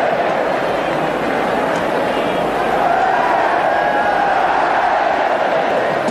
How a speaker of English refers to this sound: The Ellen Road crowd are lapping it up.